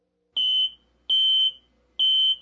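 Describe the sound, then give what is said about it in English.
Shizor's sci-fi personal comlink beeps three times, loud and evenly spaced. Each beep is a steady, high electronic tone lasting about a third of a second, with no voices. “The beep of Shizor's personal comlink interrupted his musings.”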